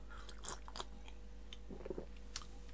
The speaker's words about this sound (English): I'm just having a slurp of my cup of Coke. Hang on.